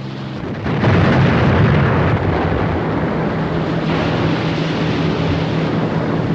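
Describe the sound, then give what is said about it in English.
A boat explodes in a flare of brilliant white light: a sudden loud blast after a brief quiet moment, then a heavy, steady roaring rumble that carries on for several seconds without fading. No voices. “The boat disappears in a flare of brilliant white light.”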